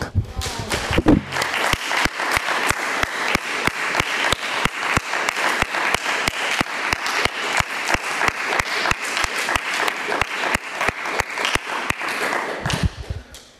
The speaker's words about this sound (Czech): aby jsme ocenili takovým, i když tu nejsou, aby jsme ocenili potleskem. Můžeme to udělat?